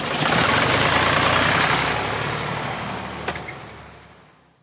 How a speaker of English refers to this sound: They told me about a man they know who's over 100 and still driving. Just parks up the odd place, junctions or whatever. The same, a wee red car. Wee red car.